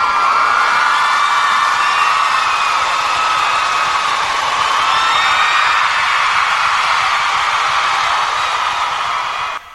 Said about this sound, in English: Where is my applause when you need them? Let me see if I can find them real quick. Usually. Yeah, here we go.